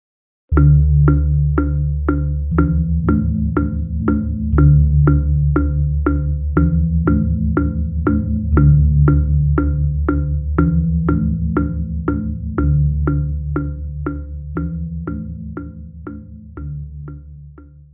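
Balinese gongs (the female gong agung, the higher-pitched male gong and the kumpur) and a timekeeping kajar play a steady 8-beat gilak gong cycle: a dry, even timekeeping pulse over deep, resonant gong strokes that return in a repeating eight-beat pattern, loud with no voices.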